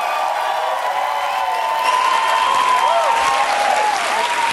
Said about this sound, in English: And the applause for John Stewart is mixing with the clanking of ice cubes that he's adding to the overflowing glass of ice water on his desk, making a mess.